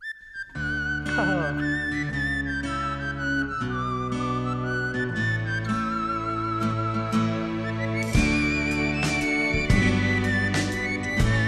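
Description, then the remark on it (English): A whistled TV theme tune carries a gliding, steady melody over a full instrumental backing with bass and chords. It plays continuously and fairly loudly, with no talking. “Now, is that you whistling? Is that you playing?”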